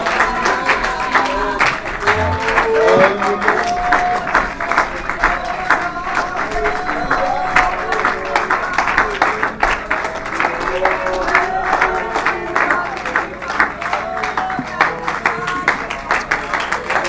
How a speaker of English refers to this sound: Why don't we just do that? Oh, clap your hands, all you people, and shout unto God with a voice of triumph.